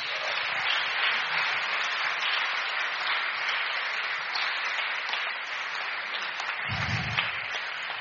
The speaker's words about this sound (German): Eine Minute 30. Großer Applaus bitte.